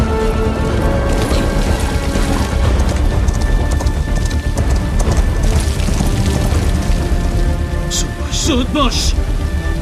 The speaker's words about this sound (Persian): باران شدید شده. هوا گرگومیش است.